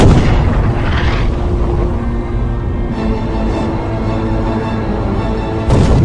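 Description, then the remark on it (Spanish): A sinking warship's bow guns boom in a loud final salvo, with deep rumbling blasts and sharp bursts near the start and end, reverberating over a continuous low roar. “Mientras el Hood se hunde, la artillería de proa dispara la salva final.”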